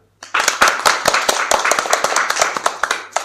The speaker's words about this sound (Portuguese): E para falarnos dela, están aquí nenos e nenas de primeiro. Un aplauso para eles.